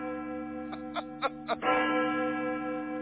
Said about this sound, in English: Listen to the bell. It tolls for thee, my friend. It tolls for thee.